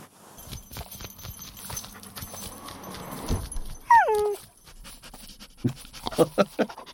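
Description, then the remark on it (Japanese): An excited dog named Yamato whimpers in delight at a visitor it had long wanted to see, letting out a short, high-pitched whine that slides downward, surrounded by quick pattering paw steps and light panting. “めちゃくちゃ喜んでんな。ずっとお前に会いたかってたから。”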